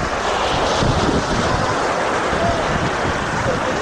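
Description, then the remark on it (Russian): Loud, steady roar of ocean surf on a beach in New York, a continuous wash of noise with no clear breaks between waves and no voices. “Все это хорошо, но лично я не представляю себе Нью-Йорка без шума океана, пляжной толпы и криков разносчиков напитков.”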